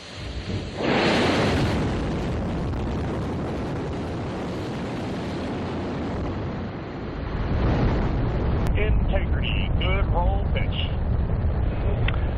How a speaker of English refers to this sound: Just moments ago, NASA launched Artemis II from the Kennedy Space Center in Florida, sending a crew of four astronauts on a 10-day voyage around the moon and back to Earth.